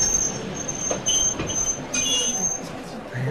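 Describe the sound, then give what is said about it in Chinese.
A train's wheels squeal against the rails as it breaks down from a mechanical fault and slows to a stop in a high, cold region, a loud, sustained high-pitched screech over low rumbling, with no voices. “火车开到一个高寒地带，忽然抛锚。”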